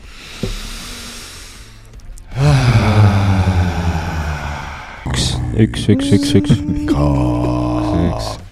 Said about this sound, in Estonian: Pole teeks, me äkki mingi enne, kui lähme siis kolm sisse hingamist, et lööb puhtaks.